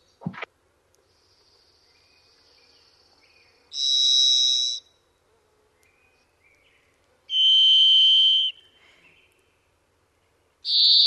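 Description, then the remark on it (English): A robin-sized thrush with an orange and black pattern gives loud, buzzy whistle-like calls, like a gym class whistle: three sustained high notes, each about a second long, spaced several seconds apart with near-silence between. The last note is cut off. “Any former jocks will recognize the gym class whistle that is their call, and I think you'll play it for folks in a second.”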